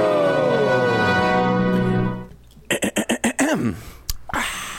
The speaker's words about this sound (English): No, that was just me clearing my throat because it is time for question number one.